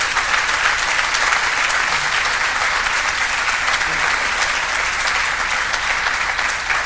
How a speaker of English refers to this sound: And so let's give a huge round of applause to my great friend, Brian Higgins.